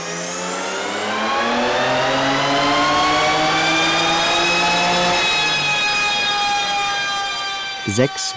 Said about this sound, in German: Der ganze Stolz der Gruppe ist ein 3er BMW, golden lackiert. Als wir sie besuchen, testen sie den Wagen gerade auf dem Prüfstand, um das Maximum an Leistung herauszukitzeln.